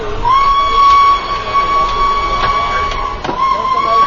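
A train pulls out of the station, its steady high whistle sounding over a noisy rumble, with faint rhythmic clacks of wheels on track repeating through the few seconds.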